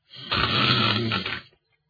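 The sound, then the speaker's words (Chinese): A storyteller imitates a single loud, rasping snore of the sleeping character Xu Lun, one drawn-out rattling breath lasting over a second, alone, then silence. “再看这徐伦这觉也没醒，还打呼噜呢。”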